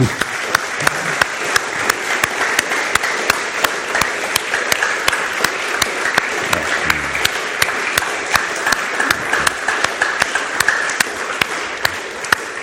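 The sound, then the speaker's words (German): A sustained round of audience applause for the many men and women who look after and maintain the building, dense and steady with many hands clapping at once, fairly loud, continuing without a break for the whole stretch. “Und da, denen geben wir jetzt mal einen kräftigen Applaus.”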